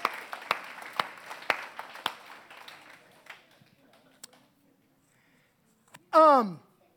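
An audience applauds with a dense wash of clapping and a few sharp, louder claps that taper off over about three seconds, followed by silence and then a brief, falling vocal moan.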